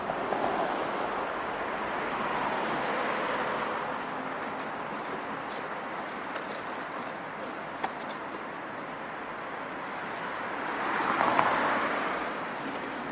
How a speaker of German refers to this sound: Hörst du das Rauschen der Autos? Nicht weit von dem Ort, an dem du jetzt liegst, bewegen sie sich auf mehreren Spuren über den Asphalt. Es ist die Autobahn 2, eine künstliche Linie von West nach Ost, von Ost nach West.